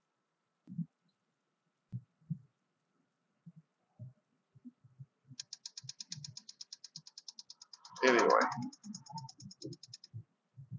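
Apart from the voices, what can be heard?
car turn signal clicking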